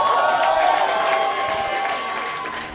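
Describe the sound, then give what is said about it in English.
An audience claps and cheers together, a loud, dense wash of applause mixed with raised voices that holds steady and then eases off slightly toward the end. “Come on, give God a clap.”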